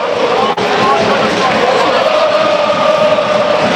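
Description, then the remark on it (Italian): A dense, loud roar of Parma football fans jumping and singing together in the stadium as they await the final whistle of a match against Atalanta, sustained and unbroken, with a wash of chanting voices filling the space for the whole stretch. “Saltano i tifosi del Parma, saltano e cantano, si aspetta solo il fischio finale di Marinelli.”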